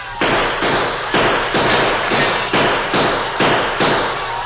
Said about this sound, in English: They won't expect gunfire from here. We'll shoot over their heads. That may hold them for a little while.